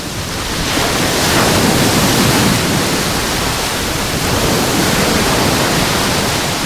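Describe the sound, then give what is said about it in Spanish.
Loud, continuous roar of Mediterranean Sea waves crashing and washing on the shore at Salobreña on a day of westerly poniente wind, a dense wash of surf with no voices, swelling slightly as a wave breaks. “Este es el sonido hoy del mar Mediterráneo.”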